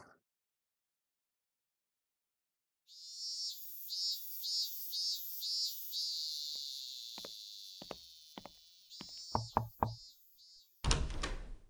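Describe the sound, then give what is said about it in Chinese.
A woman opens a door for an arriving visitor: the door creaks open in a drawn-out, high-pitched squeal, followed by scattered latch clicks and knocks, then a brief louder rush at the end. Clear, with no voices. “你来了，还不赶紧进来，人家穿成这样给你开门，羞死人了。”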